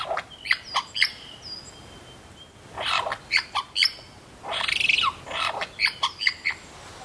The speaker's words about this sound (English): If you can't recognise that bird call, you wouldn't be alone. It's a superb lyrebird who I stumbled across yesterday in the Yarra Ranges National Park on the outskirts of Hillsville, Victoria.